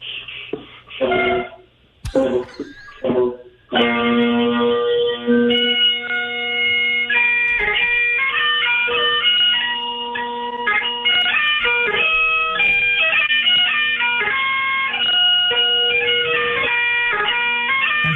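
Bagpipes come through a tinny, narrow phone line: a few rough bursts and squawks, then a steady buzzing drone under a loud, continuous reedy melody that carries on to the end.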